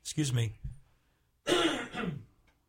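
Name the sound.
coughing and throat clearing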